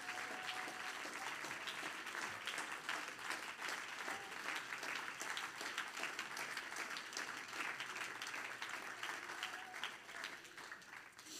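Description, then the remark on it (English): An audience, standing during a church service, claps hands to Jesus in a steady, dense wash of applause that holds at an even loudness for about eleven seconds, with no voices standing out. “Everybody stand and clap your hands to Jesus.”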